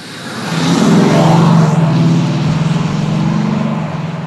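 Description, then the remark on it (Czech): A Maserati Ghibli engine revs loudly, its deep throaty roar swelling, holding steady with a pulsing rumble, then easing slightly over a few seconds, with no talking. “Zdravím všechny Beaťáky, teď vám řádně profoukne ouška zvuk jedný výjimečný káry.”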